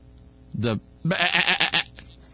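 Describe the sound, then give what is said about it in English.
A voice imitates a sheep bleat: a short nasal "baa" followed by a longer, louder, quavering bleat with a shaky tremble before it cuts off. “Is that FAA or BAA?”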